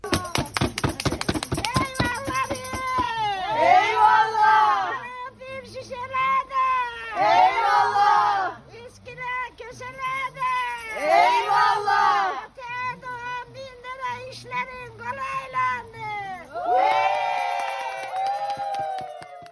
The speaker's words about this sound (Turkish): Şu da kızın evine dilenmeye gittiğinde işte bağırdığın, o mani ettiğin, eyvallah çektiğin yer. Bak şimdi.